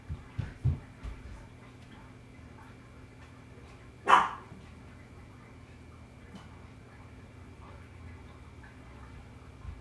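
A single sharp dog bark rings out, with a couple of softer low thumps earlier, over a faint steady hum and no talking.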